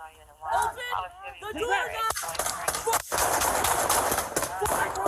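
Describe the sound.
A burst of rapid gunfire: many sharp, loud shots cracking in quick succession for several seconds, right after a brief stretch of shouting voices.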